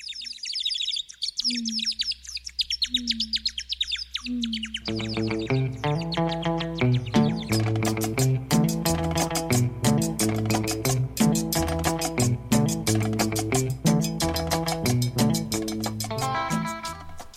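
A cumbia track opens with bright chirping bird calls over a low hum, then a full band kicks in with steady, driving percussion and rhythmic melodic lines, loud and upbeat, no voices.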